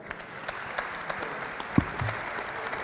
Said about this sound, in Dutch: Ik dank het publiek, een applaus voor uzelf.